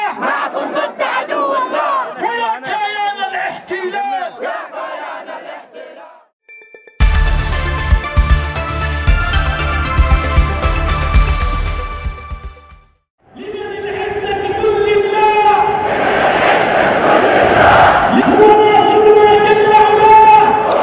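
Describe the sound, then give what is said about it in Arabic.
A huge crowd at a mass rally celebrating victory in Al-Sabeen Square in Sanaa, Yemen, roars and chants in loud unison, broken midway by a dense, harsh burst of amplified noise before the massed voices swell back in, sustained and rhythmic. “تحول ميدان السبعين بقلب العاصمة صنعاء إلى بحر بشري هادر في مسيرة حملت عنوان شكرا لله واحتفاء بالنصر، ساحتنا واحدة في مواجهة الصهيونية”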